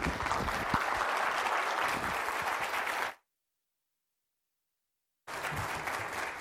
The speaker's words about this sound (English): another round of applause for his great talk this morning.